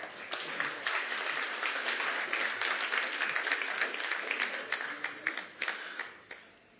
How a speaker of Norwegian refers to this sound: Gi disse her herlige ungdommene en god, god applaus.